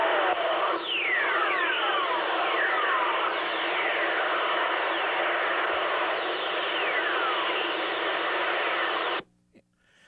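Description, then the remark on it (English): Radio whistlers from thunderstorm lightning, recorded by the Engine 3 satellite around 1961 while flying over a thunderstorm: many faint descending whistling tones glide downward in pitch, overlapping through a loud, steady crackling hiss that cuts off abruptly near the end. “Each of these whistling sounds is produced by, we're flying over a thunderstorm.”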